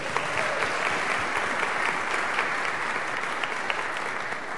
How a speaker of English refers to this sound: Another round of applause for our